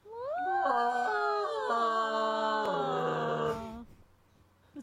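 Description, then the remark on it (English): A person's voice imitates a whale call: one long, wavering, howling moan with sliding pitch steps, held for over three seconds and then trailing off into near silence. “Do not make that whale sound again.”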